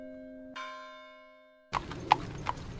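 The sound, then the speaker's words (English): A ringing bell tone fades out, then a horse's hooves clip-clop at a steady walking pace, several sharp hoofbeats on a hard surface with no voices, from horseback riding on the 3,250-acre campus of Sweetbriar, a Southern women's college. “If you think of Sweetbriar as a genteel Southern women's college, then you're probably not surprised to hear this story open with the sound of horses' hooves.”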